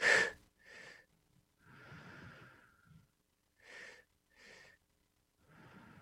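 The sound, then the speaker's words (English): Open-mouth breathing in a repeating breathwork pattern: two quick, sharp inhales followed by one longer, drawn-out exhale, done twice. The breaths are moderately loud, with no talking. “We've changed this double helix she's talking about, which is all open mouth breathing. It's two inhales and one exhale.”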